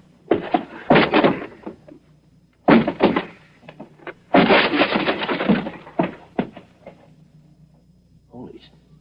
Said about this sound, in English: Stand back. I'll force the door.